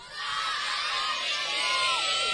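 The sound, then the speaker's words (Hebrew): A large TV studio audience roars and cheers loudly for prizes just before a commercial break, a dense, sustained wall of shouting and whooping voices that holds steady for the whole moment. “מבטיח לכם פה עכשיו באמת פינוק של פרסים, אבל רק אם אני אשמע פה שאגה אדירה.”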